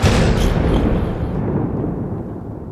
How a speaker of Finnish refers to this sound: Leija, mene huoneen nurkkaan. Aion räjäyttää oven.